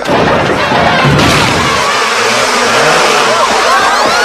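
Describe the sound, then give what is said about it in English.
A dense, loud droning buzz of a large swarm of killer bees fills the whole stretch without letup, with muffled voices faintly mixed in underneath. “Killer bees, murder hornets.”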